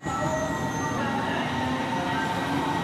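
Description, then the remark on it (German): A train rumbles steadily past platform 1 of Berlin's Ostkreuz station, loud, with a constant low roar and faint metallic whining tones above it, no voices. “steht an Gleis 1 des Berliner Bahnhofs Ostkreuz und wartet auf seinen Zug.”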